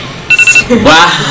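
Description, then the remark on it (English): A phone alarm plays a quick run of bright, pulsing electronic tones, then keeps sounding as a voice starts talking over it. “That's your alarm?”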